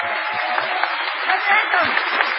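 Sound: audience applause and ovation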